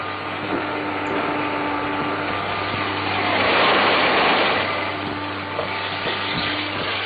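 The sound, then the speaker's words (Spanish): A vacuum cleaner runs steadily at around 70 decibels with a loud droning whir and a low motor hum, swelling slightly louder midway, with no voices. “Un aspirador, unos 70 decibelios.”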